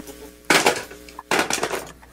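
A telephone handset clatters down onto its cradle in two sharp, rattling bursts, the second following shortly after the first, with no voices, as a caller to a radio call-in show hangs up.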